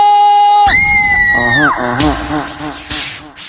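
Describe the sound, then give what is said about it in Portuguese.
A loud burst of crowd screaming and shouting, answering a host's call to shout, follows a sustained high vocal call, with many overlapping voices yelling and cheering, energetic. “Quem quer beijar na boca, dá um grito!”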